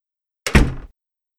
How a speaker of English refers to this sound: Let's do the actions. Close the door.